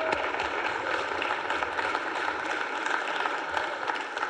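A crowd claps steadily for about four seconds, a dense, even wash of many hands with no pauses and no voices rising above it, applauding employees being recognized for twenty years of service.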